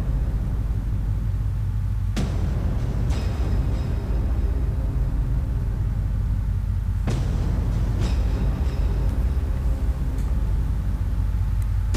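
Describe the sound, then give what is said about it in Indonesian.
A steady, heavy low rumble of an economy-class train idling on the track at a station at about 4 a.m., ready to depart, broken by a few sharp metallic clanks spaced a second or so apart, with no voices. “Tapi anehnya, sudah ada sebuah kereta ekonomi pada jalur yang sudah bersiap-siap untuk berangkat.”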